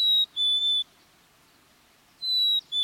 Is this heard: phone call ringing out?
no